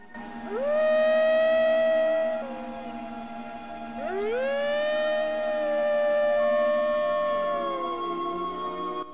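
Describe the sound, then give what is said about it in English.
White Fang, a wolfdog standing at the water's edge by a village, tilts his head back and howls at the sky twice, each long, tonal call sliding up at the start, holding a steady mid-high pitch, then dipping at the end; the second howl is longer. No one speaks. “After looking over his shoulder at the village, White Fang tilts his head back and howls at the sky.”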